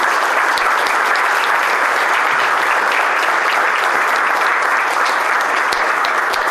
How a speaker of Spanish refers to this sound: Así que, en este marco, le damos la bienvenida con un fuerte aplauso al doctor Julián de Diego y al doctor María.